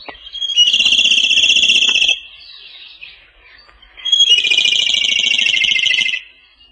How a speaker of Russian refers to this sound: Даже не подумаешь, что эта короткая песенка принадлежит соловью. Всего одно колено. Соловья этого называют свистун.